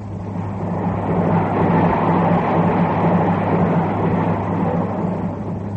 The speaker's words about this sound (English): Well, the train's going a bit fast, isn't it, Mr. Applewhite?